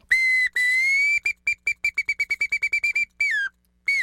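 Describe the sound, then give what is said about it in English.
A bamboo bird whistle imitates a song sparrow, demonstrating variations in the song of a single song sparrow: a few long steady notes, then a quick run of rapid staccato chirps and a final falling slide, loud with no voices. “In this show, we use a bamboo bird whistle to demonstrate variations in the song of a single song sparrow.”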